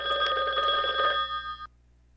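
A telephone rings with an incoming call, a steady electronic trill of bright harmonic tones pulsing rapidly for over a second before cutting off abruptly, clear with no one speaking.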